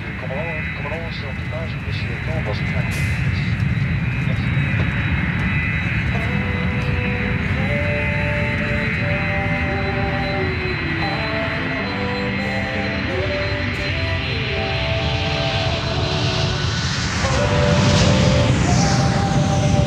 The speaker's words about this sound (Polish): Siedzę w samolocie gotowy do lotu w podróż służbową za oceanem, tym razem do Kanady.